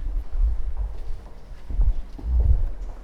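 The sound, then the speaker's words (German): Dull, irregular thuds of footsteps moving across a hard floor in an exhibition space as people walk a few steps on to the next exhibit, with a low rumbling background and no talking. “Wir gehen jetzt gleich mal ein paar Schritte weiter zu dem nächsten.”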